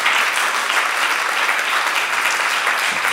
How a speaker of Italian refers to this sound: potete applaudire tra un ringraziamento e l'altro.